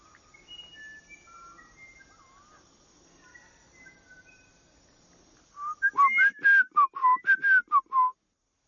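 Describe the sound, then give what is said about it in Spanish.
Soft bird whistles drift in, then a loud burst of quick whistled notes answers in a rapid back-and-forth, a person and a friendly bird trading whistles like a whistling competition. “Aún no logro descifrar la del nuestro, pero él suele ser muy amistoso y siempre me responde como una competencia de silbidos.”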